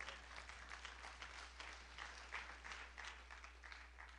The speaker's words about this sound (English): I'm free in Jesus' name. Can we clap the hand for Jesus?